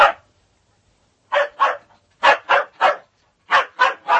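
A dog barks sharply and repeatedly, about nine loud barks coming in quick bursts of two or three with short pauses between, and no other sounds or voices.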